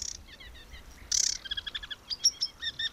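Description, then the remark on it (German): A sedge warbler's courtship song in mid-May, sung over dark water: fast, varied chattering phrases of high, buzzy trills and sharp repeated chips, with a harsh burst near the start, sung alone over a faint low rumble. “Es ist Mitte Mai, Seggenrohrsänger-Balzzeit, Tag und Nacht.”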